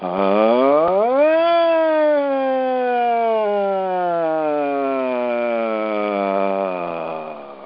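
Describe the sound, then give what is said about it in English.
During a vocal warm-up exercise, a single voice sings a siren-like glide after taking a breath, sweeping quickly up in pitch from low to high, then sliding slowly and smoothly back down in one sustained, steady tone lasting several seconds. “Take a breath and run a siren low to high and back down.”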